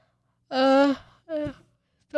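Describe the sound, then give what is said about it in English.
A voiced yawn from a tired speaker: a drawn-out breathy vowel that swells and then trails off into a shorter, falling groan, with another vocal sound starting just as it ends. “I've told you guys I'm tired. I yawn.”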